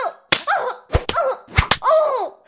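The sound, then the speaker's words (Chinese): Five sharp spanking blows from a whip land on buttocks in quick irregular pairs, each a crisp smack, with a wavering voice crying out between them. “主人，求求你再使重一点！”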